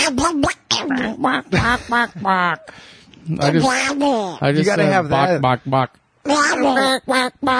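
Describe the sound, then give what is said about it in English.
A person imitates Donald Duck's voice, a loud stream of raspy, quacking gibberish broken by a few short pauses. “Can you do Donald Duck?”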